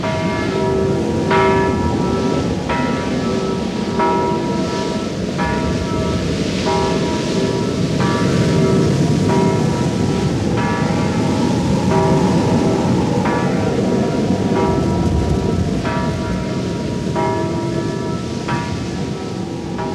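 The only bell of a village church in Auerkerk, on the polder island Schrauen-Döveland, is rung by rope from the tower as a flood alarm to wake farmers. It tolls repeatedly in an urgent, steady rhythm over a constant roaring wash like wind and surging water. No voices are heard.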